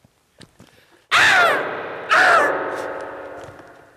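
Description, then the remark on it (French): After a brief quiet stretch, two loud squawking calls, one right after the other, each sliding downward in pitch and trailing off, as a person imitates a hen's cackle. “Elle va très très bien, elle fait la poule.”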